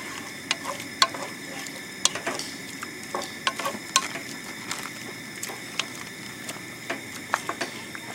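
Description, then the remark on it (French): Meat coated in orange powder is stirred in a pan with added water so all the meat turns orange, a steady sizzle underneath and irregular scraping clinks of a utensil against the pan, with no one talking. “Je vais en mettre de l'eau. Comme ça. Ils sont bien. Peut-être bien mélanger pour que toute la viande soit orange.”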